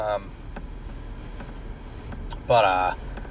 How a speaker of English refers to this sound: It's windy as hell out right now. It's brick out there. Man, it's brick out here.